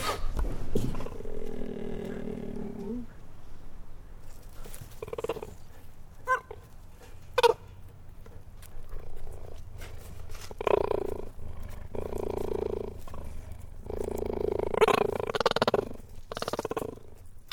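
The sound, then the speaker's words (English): A cheetah purrs and growls up close, a low rumbling vocalization rising and falling in uneven bursts with short pauses between, no voices present. “It kept responding, and it was kind of nervous, and I kept sort of slowly and gently moving into it, and I got closer and closer, and the cheetah relaxed with me.”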